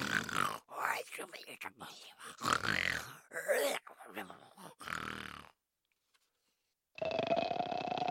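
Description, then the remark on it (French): A voice imitates a monster snoring as it suddenly collapses, with a series of deep, rasping grunts and snorts over about five seconds, then a pause before a steady electronic tone begins. “Il avance vers les fillettes d'un air menaçant et s'écroule brusquement en ronflant.”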